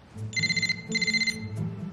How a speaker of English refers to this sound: … answers the phone call from ….